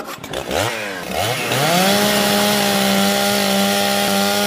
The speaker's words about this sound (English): Right, I'll chop it down, Mother. Leave it to me.